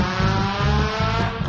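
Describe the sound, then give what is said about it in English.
A loud car engine revs up, its rough, raspy exhaust roaring steadily with dense harmonic buzz, like a vehicle with a failing muffler. No one speaks. “Oh, that dude's got, he's got muffler problems, don't he?”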